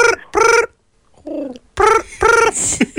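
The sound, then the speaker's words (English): A voice imitates a phone ringing with a series of loud, buzzy, tonal vocal bursts in quick pairs, one softer and lower-pitched burst in the middle, rather like a trilled 'brring'. “Yeah, you're not making the sound of the phone. I am.”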